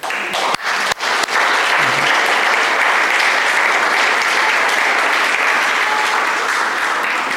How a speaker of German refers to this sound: Sollen wir Gott mal einen Applaus dafür geben, dass er so ist, wie er ist?